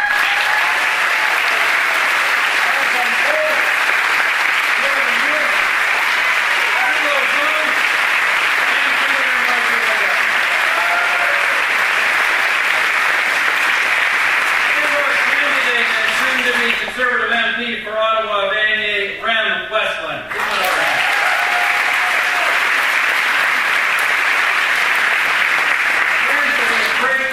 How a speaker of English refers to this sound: We have now, and I cannot imagine our team having a better House leader than John Baird. And let's give them all once again a big round of applause for the job they all do.